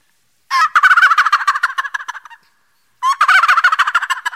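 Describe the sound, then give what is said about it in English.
A person with a cough drop in their mouth imitates a male wild turkey's gobble, two loud, rapid rattling gobbles in a row with a short pause between them, clear with no talking. “Here's that old male Tom Gobbler.”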